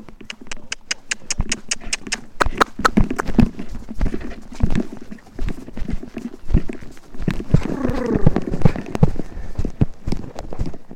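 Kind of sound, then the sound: animal, horse hooves clip-clopping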